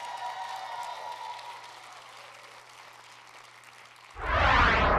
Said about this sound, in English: Come on, church, give a big cheer.